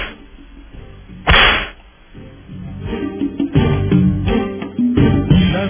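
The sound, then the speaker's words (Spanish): A single sharp whip crack snaps out loudly and briefly, standing alone before rhythmic music with strong beats picks up and carries on to the end. “Pero bueno, ahí vamos con otros latigazos.”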